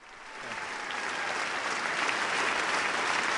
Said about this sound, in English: After long applause and a standing ovation, the president spoke frankly and directly to the American people about the current financial crisis.